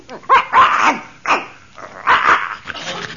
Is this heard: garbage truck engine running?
no